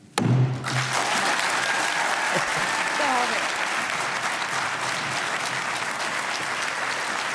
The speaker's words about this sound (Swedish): Det här var ju en applåd som aldrig tog slut. Jag var tvungen att klippa den, men den tog ju aldrig slut. Folk ställde sig upp och applåderade.